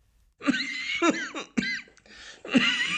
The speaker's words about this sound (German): Entschuldigung. Trockener Husten.